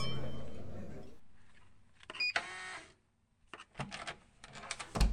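Glasses clink together in a bright, ringing toast near the middle, followed by scattered clattering and rustling of glassware and tableware, with no one speaking.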